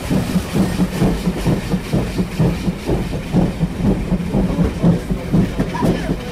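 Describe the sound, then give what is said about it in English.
A train wheel with a flat tyre at the brake end bumps steadily along the rails as the train continues to Bowness, a rapid repeating thud-thud rhythm over the low rumble of the moving railway car, fairly loud. “After an inspection, it was decided that it was safe to continue to Bowness, although the affected brake end had a flat tyre, as you can hear very plainly as it goes bump, bump, bump.”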